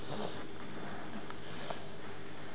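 A child sniffles and blows their nose into a rag, with a few short, breathy nasal bursts over a steady background hiss.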